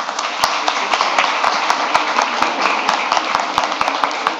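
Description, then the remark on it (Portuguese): A crowd applauding steadily, a dense wash of many hands clapping with sharper individual claps popping through at a fairly even loudness throughout. “Uma salva de palmas a eles aí.”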